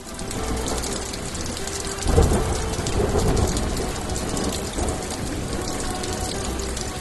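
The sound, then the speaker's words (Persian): Steady, heavy rain patters densely on the roof of a house, a continuous hiss of drops with a low rumbling swell early on. No voices. “بوی باز باران با ترانه می خورد بر بام خانه می آید و صدای شراره های باران.”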